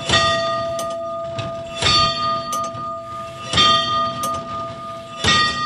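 A tower clock mechanism in Zdechovice strikes its bell while being set to the current time, struck repeatedly at an uneven pace, each loud metallic clang ringing out with steady sustained tones that hum between strikes, with mechanical clatter underneath.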